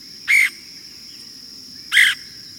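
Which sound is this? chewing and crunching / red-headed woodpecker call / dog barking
red-headed woodpecker call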